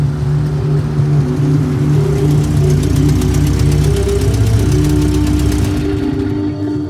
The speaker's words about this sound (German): Alle Straßen führen nach Madagaskar. da kommt auch schon das erste Auto.